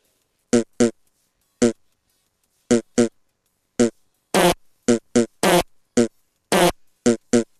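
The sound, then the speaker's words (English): A rapid series of short, loud fart sounds in irregular bursts, some brief and tonal, others longer and raspier, with silent gaps between them and no talking. “Farting.”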